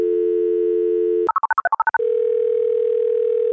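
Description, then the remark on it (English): A steady telephone dial tone hums, then a quick run of about ten touch-tone keypad beeps as a number is dialed to call psychologist Dr. Victoria Tawar of McGill University, followed by another continuous line tone. No voices. “And let's get her on the phone.”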